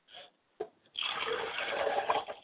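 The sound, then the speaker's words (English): Liquid is poured out as a libation to the south in a steady, splashing stream for over a second, fairly clear, after a couple of brief soft knocks; no one speaks. “And finally, I pour libations to the south, and I say Ashe.”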